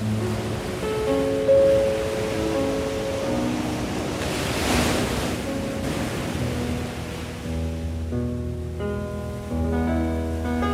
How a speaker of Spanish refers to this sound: Con un rictus de amargura en su rostro, mira fijamente el rompiente de las olas bajo sus pies.